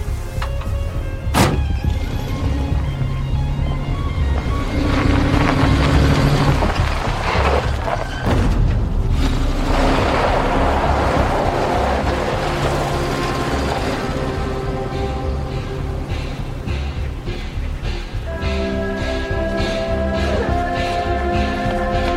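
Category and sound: vehicle, car driving away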